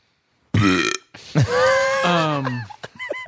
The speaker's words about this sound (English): Yeah, we got a revolving door because I will belch in people's faces, dude.